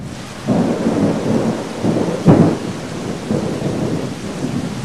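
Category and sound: nature, heavy rain with thunder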